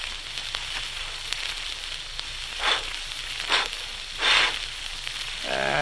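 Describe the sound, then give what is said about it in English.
A campfire hisses and crackles steadily as a camper tries to get it started in the wastelands of western Colorado, with three louder whooshing flare-ups swelling briefly toward the end. No one speaks. “But now I'd like to go back a number of years to the wastelands of western Colorado, where a camper is trying to get a campfire started.”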